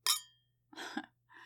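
wine glasses clinking

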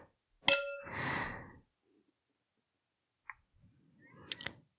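glasses clinking

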